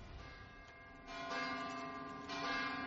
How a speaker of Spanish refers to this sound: Este es el único diálogo de Ártico. O sea, diálogo entre campanas. Casi no hay diálogos en Ártico.